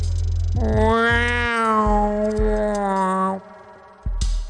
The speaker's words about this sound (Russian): Мяу. Разве это не ты мяукаешь? Не я, пап, честно. Как будто кошку придавила, сказала Айрис. Только откуда тут взяться кошки?